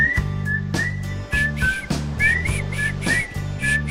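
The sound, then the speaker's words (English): A person whistles a bouncy, rhythmic tune in short repeated phrases, clear and prominent, over a steady musical backing with a deep bass line; no one speaks. “I can't whistle.”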